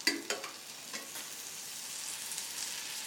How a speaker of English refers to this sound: Then, cook some onions in a frying pan.